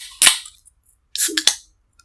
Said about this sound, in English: All right. So should we crack these cans open? Let's crack them open. All right.